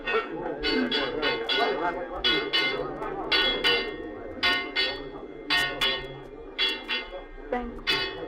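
signal or alarm, alarm bell ringing

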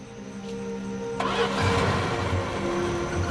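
vehicle, car engine starting

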